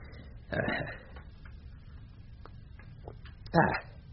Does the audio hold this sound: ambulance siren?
no